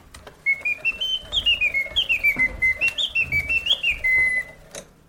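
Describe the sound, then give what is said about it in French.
A mechanical singing bird automaton in its small cage, with eight different song registers, warbles a continuous, high whistled song of rising and falling trills in quick rhythmic pulses, with faint clicks from its mechanism beneath and no talking. “Et vous approchez l'oiseau chanteur dans sa petite cage, qui est donc maintenant devant nous.”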